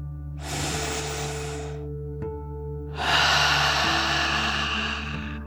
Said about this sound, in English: We'll start by taking a deep dragon breath together. You'll breathe in through your nose, filling up your lungs, and then out through your mouth, pretending you are breathing fire like a dragon. Ready? Deep breath. In and out.